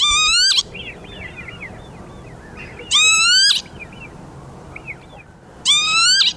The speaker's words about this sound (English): And all the while, it's making this loud, shrill peewit, peewit, or kibitz, kibitz, if you're German, during the time that it's flying around in this odd, erratic fashion.